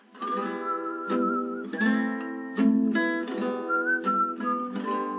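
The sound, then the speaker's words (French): A short melody of the notes E, E, A, E, F, E, D, B is whistled in a steady, clear tone over a backing of sustained chords of E minor, A minor, E minor and G, with several distinct notes rising and falling across a few seconds, and no talking. “Donc, on va siffler mi, mi, la, mi, fa, mi, ré, si.”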